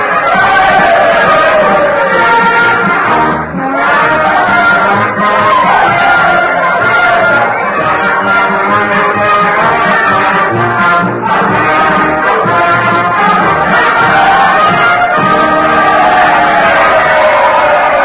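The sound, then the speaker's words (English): A huge crowd roars and cheers in a dense, unbroken, loud din, with countless voices blending into a wall of noise that holds steady from start to finish. The crowd is cheering after President Lincoln asked the Union Band to play Dixie at the end of the war. “Well, I hope you can hear me above all this din. The crowd understands the meaning of Mr. Lincoln's request.”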